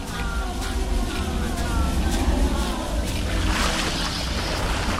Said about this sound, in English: The older woman churns her arms through the water, whispers to another guest.